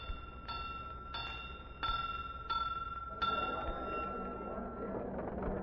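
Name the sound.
door bell ringing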